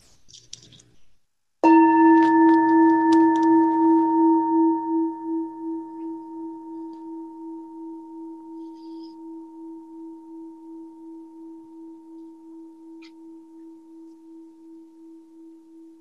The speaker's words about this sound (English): Yeah, in this tradition, we just end with one bell. Thank you. Or my tradition, I should say. And if it was unclear, I'm in the Soto Zen tradition of Shunryu Suzuki Roshi.